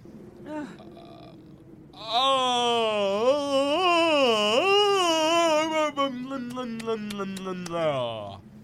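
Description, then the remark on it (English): A long, loud, drawn-out vocal yawn, about six seconds, its voiced pitch wavering up and down before sliding lower at the end, preceded by a short breathy sound. “That's how I yawn.”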